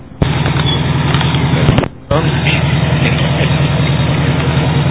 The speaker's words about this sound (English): And what kind of engine's driving it? That's a genuine 66 Buick.